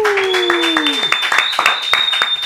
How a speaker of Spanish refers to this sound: Fuerte el aplauso, puñeta.